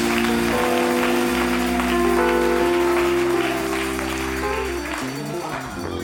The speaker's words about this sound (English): Let's clap our hands one more time. Give him a crowd rise.